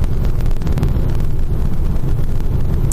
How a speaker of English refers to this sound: Here comes some trucks screaming up behind me. Hopefully they don't blow me off the edge of the road here.